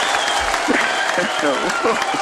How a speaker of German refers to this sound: Stürmischer Applaus. Wir haben gelogen, ja, hier sind ganz viele Leute im Studio und die klatschen alle. Der ganze Strand tickt aus. Ja, der ganze Strand tickt aus.